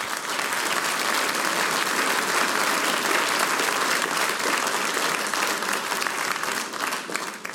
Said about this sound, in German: Ich und meine Schwester aus dem Sulmtal, aus St. Martin im Sulmtal, das ist euer Applaus. Danke, dass ihr heute da seid.